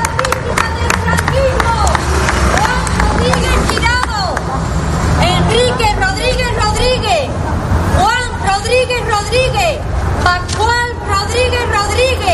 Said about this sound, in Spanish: Aplausos han podido escuchar de los pocos familiares que se acercaron